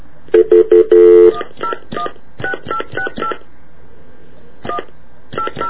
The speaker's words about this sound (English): Unfortunately, I can't read my writing, and I hope I dial this right. I hope this is a payphone.